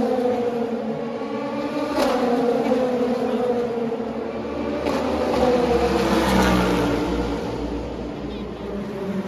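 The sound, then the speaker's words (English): The engine of car 56, a big race car running as an exhibition entry, roars steadily and loudly, its pitch climbing and dropping through a couple of hard revs about every four seconds, with a dense rumbling background throughout. “But if you saw it, it was hard not to fall in love with the big car, because every four seconds or so, it would, you know, wake up everybody passing it with just the full-throated sound of American glory.”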